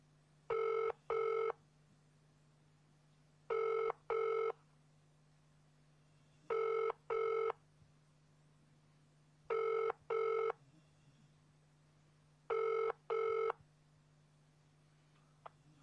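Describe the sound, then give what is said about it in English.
A call to the police 999 line rings out unanswered with the double-burst pattern, five pairs of short rings repeating every few seconds over a steady low hum, with no one picking up. “Now at 999 won't pick up the phone.”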